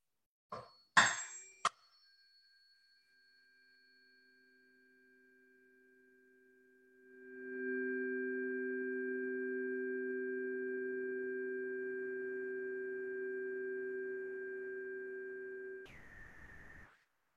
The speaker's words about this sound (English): Now, normally I hold them up to people's ears and have the combined tones is what resets the brain, what resets the stress level. It's truly amazing.